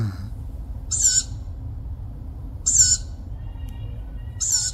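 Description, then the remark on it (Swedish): An owl calls in the dark three times at steady intervals of about two seconds, each a short, high, raspy screech over a low, constant background rumble. No one speaks. “den ropar ju och tjoar och var väl jättenöjd där”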